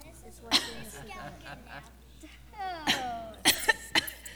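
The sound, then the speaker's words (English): A few harsh coughs from someone who is sick with disease: a single one early on, then a strained throaty sound followed by a quick cluster of three or four coughs near the end. “You know, he's starting to have some disease. Some disease. And he's coughing.”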